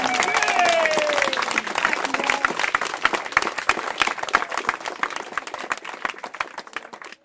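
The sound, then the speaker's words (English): A crowd applauds warmly after three cheers for veterans, dense clapping from many hands that carries on steadily for several seconds, with a few voices cheering at the start before the applause gradually thins out. “Now you can clap.”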